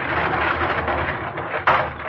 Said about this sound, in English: Man 18 to 48, into the cattle cars. Close the doors.